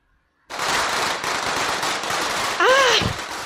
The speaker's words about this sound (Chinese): 谁在放鞭炮？